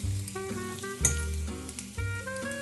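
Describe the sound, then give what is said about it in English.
Steady hissing sizzle of sage leaves crisping in hot fat in a small skillet, cooked in batches until bright green, a continuous crackly wash that runs under a melodic music track with sustained, shifting notes; no one speaks. “To strain the sage leaves after you've crisped them in the pan”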